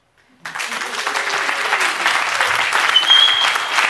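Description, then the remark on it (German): A school audience at the Alemannschule bursts into loud, sustained applause after a brief silence, dense clapping throughout, with a short shrill whistle rising above it near the end. “Letzte Station unserer kleinen Schultour und mit unserem Publikum hier an der Alemannschule. Macht euch doch mal kurz bemerkbar.”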